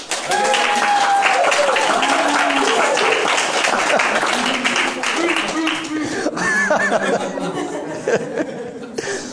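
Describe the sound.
An audience at a Sovereign Grace Fellowship in Smyrna, Tennessee, gives sustained applause for a man who filled in as teacher the week before, a dense crackle of many hands clapping for about nine seconds, loud and steady, with scattered laughs and voices in the crowd.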